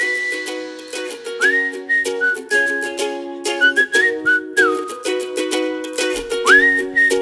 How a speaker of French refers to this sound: On ne siffle pas à table. On a dit, ah, c'est vrai ça. C'est mal poli. Alors, on siffle pas à table, enfin.